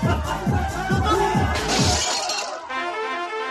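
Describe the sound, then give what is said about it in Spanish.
Thumping dance music with a steady heavy bass beat plays loudly as a son DJs in the living room of a house, then cuts off into a loud crash of shattering glass with scattered tinkling. “Y cuando te vas de finde y tu hijo pincha en la sala de estar de tu casa, suena así.”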